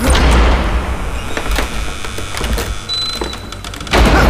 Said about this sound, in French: La porte vient se refermer toute seule! Elle ne s'ouvre plus!